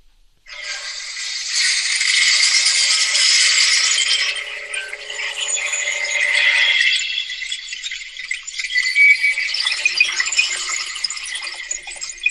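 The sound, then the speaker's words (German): A sustained, glittering splintering effect like glass shattering into countless pieces: dense high-pitched crackling and rattling that holds steady, then thins into scattered, gritty crackles toward the end. No voices. “Verdammt, ist da was zerbrochen in tausend Teile?”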